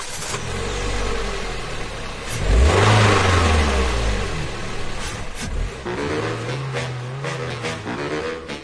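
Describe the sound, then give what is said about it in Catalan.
A Ferrari 430 sports car engine revs hard at the Circuit de Catalunya, its pitch sweeping up and down in repeated throaty surges, loud and unbroken with no one talking. “El circuit de Catalunya ens proposa conduir un Ferrari.”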